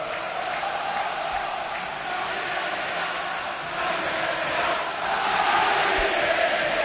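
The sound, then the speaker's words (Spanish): A crowd of 35,000 spectators at Mestalla stadium chants 'Gary, vete ya' in unison, a dense, continuous roar of massed voices that holds steady and swells slightly louder toward the end, with no single voice standing out. “Hablamos de 35.000 espectadores al grito de Gary, vete ya.”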